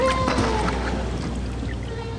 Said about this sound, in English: The whales were calling in a different pitch. Again, here's what the whale calls sounded like in the 50s. And here's what it sounded like in the 2000s.